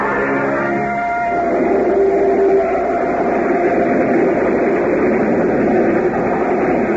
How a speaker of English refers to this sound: Train near Batsville. A boxcar door slid open, and a gaunt-looking young man in shabby but well-cut clothes leapt from the speeding car.